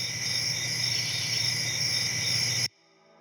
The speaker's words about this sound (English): Yeah, crickets.